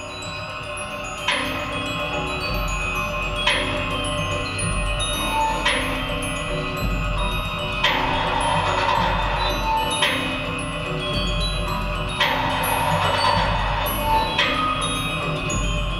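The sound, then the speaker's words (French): A musical chime piece, one of four, built from recorded sounds of a room: bell-like strikes ring out about every two seconds, each with a lingering shimmer, over a steady hum-like bed. No one speaks. “Alors, on vient d'écouter une de ces sonneries, ouais. Un des carillons, vous allez en présenter quatre.”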